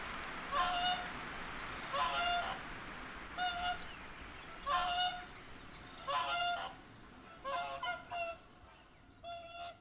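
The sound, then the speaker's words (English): Two whooper swans call overhead in flight across the sky, a series of about seven bugling, honking calls in a loose, uneven rhythm against a soft background hiss, with no one speaking. “Here's the hooper, or the geese, it's one of the others. Across the sky, two hooper swans.”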